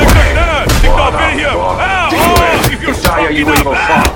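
Artillery fire booms out in several sharp, irregular blasts, loud and rumbling, amid a chaotic wash of frantic shouting and wailing voices.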